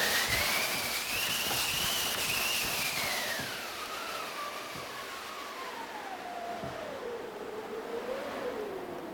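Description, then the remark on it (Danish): A theatre wind machine on the forestage of the Hofteatret whooshes with a steady, rushing roar, and a whistling howl rises a little and then slowly sinks in pitch over about nine seconds. No one speaks. “Her står så i damesiden vindmaskinen. Og den lyder jo sådan her.”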